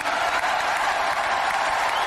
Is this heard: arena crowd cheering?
yes